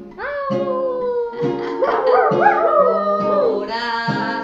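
A dog howls in long, wavering cries that rise and fall in pitch, with overlapping howls swelling in the middle before settling into steadier drawn-out notes, fairly close and loud.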